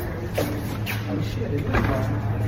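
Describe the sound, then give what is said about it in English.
The handle of a locked door to the House of Representatives, normally used to enter for votes, is tugged a few times, giving short metallic clunks and rattles as the door refuses to open, over a steady low background hum and faint murmuring. “All right, we're coming up on the door that we normally walk into for votes. Let's see if it's open.”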